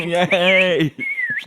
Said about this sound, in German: Wir alle kennen das berühmte Pfeifen.